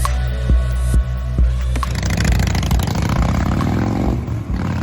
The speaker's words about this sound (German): An was denken wir, wenn wir diesen Sound hören? Motorradfahren? Die große Freiheit? Oder doch eher zwielichtige Geschäfte und Bandenkriminalität?